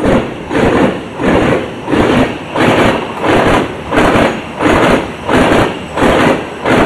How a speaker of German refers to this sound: Aber jetzt hat man ja gehört, jetzt hat es so ein bisschen geklopft, wo der Zug drüber gefahren ist. Ist jetzt das von diesem Riss oder ist das einfach normal auf der Weiche? Nein, das ist ja normal auf der Weiche.